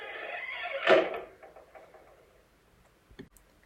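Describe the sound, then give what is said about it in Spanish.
A door slams shut with one loud, sharp impact, followed by a few faint knocks and rattles as it settles, then a small click near the end. “dijo la hormiga con tono de burla, cerrando la puerta bruscamente.”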